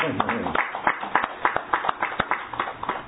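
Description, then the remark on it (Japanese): An audience at Higashi Church (東教会) claps steadily for a few seconds, a dense patter of many hands with sharp overlapping slaps, moderately loud, with a faint murmur of voices underneath at the start. “金メダルがこう5つ並んでるような、ね、ちょっと皆さん拍手したい。”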